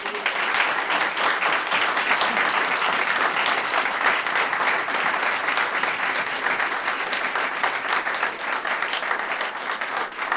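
Sustained applause from an audience for a panel, a dense, steady wash of many hands clapping at a constant loud level for about ten seconds, with no voices standing out.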